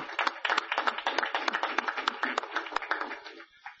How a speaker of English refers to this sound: But I want to give special kudos to Commissioner Spoon especially, and also to Commissioner Moraga for their dedicated efforts in making this come forward. So another round of applause, please.